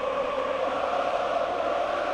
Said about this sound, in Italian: Sentite l'urlo dei tifosi dell'Atalanta in sottofondo. Stadio credo esaurito, comunque molto vicino ad essere esaurito.